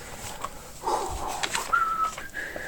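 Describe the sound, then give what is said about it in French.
Someone whistles a short, soft tune, a few sustained notes stepping upward in pitch, with no one talking over it. “Oui, je sifflote pour me détendre.”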